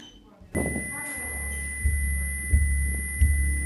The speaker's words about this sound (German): Dieser Sound hier, dieser Piepton, ist quasi der Stresstest-Sound, um die ankommenden Werte zu kalibrieren.